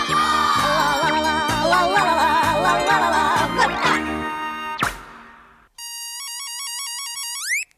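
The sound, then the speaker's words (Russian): A sung tune about Kolobok with a steady beat breaks off, then a bright electronic telephone ringtone plays alone for about two seconds: a quick, looping melody of beeping tones that climbs at the end. The call is answered by the character Kolobok. “Колобок у аппарата.”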